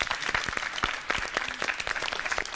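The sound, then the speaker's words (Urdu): An audience claps steadily to encourage three contestants in a food-tasting contest, a dense, continuous patter of many hands at moderate volume filling the whole short stretch, with no voices standing out. “یہیں سے ایک مرتبہ ان تینوں کی حوصلہ افزائی ہونی چاہیے زوردار تالیوں کے ساتھ.”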